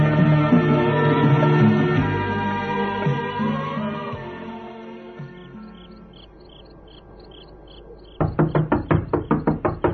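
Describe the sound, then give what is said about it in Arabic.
A series of sharp, rapid, loud knocks on a door at the start of the night comes at the end after a stretch of low, droning ambience and a fading musical tone. “الذي يطرق الباب في أول هذا الليل؟”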